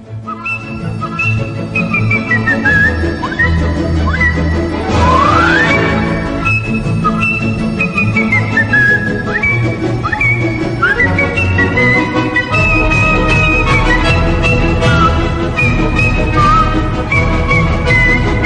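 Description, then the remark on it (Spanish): A person whistles a lilting melody with sliding, gliding notes, clear and prominent over a full instrumental accompaniment that plays steadily throughout; a musical whistling piece sent from Ibagué, Colombia. “Escuchemos un trocito de este extraordinario silbo musical enviado desde Ibagué, Colombia”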